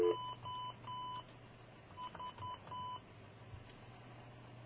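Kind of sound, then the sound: signal or alarm, telephone keypad dialing tones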